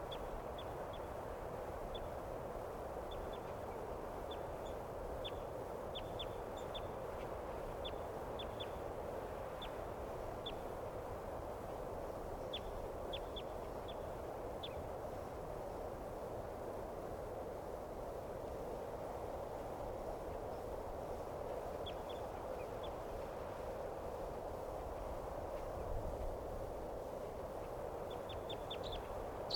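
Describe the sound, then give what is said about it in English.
A wild bird, a female, calling from some distance away in faint, high, short chirps that come in scattered bursts and repeated series over a steady, loud wash of hissing background noise. No one speaks. “Here she comes. Stop. This is a wild bird.”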